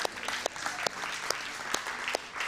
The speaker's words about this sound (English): So, why is everybody clapping? Listen, we're celebrating because we love you.